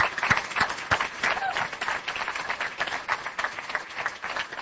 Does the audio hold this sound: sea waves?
no